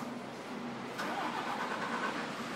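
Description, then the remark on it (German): A heavy truck engine rumbles steadily on a parking lot. It is a blue 460 hp tractor unit converted to liquefied gas, with an automatic gearbox and no trailer attached yet. About a second in, a sharp click comes before the motor kicks up into a louder, whining run that holds to the end. “Eine blaue Zugmaschine, umgerüstet auf Flüssiggasantrieb, 460 PS, Automatikgetriebe.”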